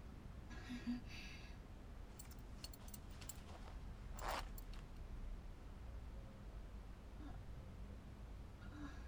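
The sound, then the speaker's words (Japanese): A zipper is pulled down once in a brief rasp, fairly quiet against a low steady background hum with a few faint rustles around it. “チャック下ろしますね。”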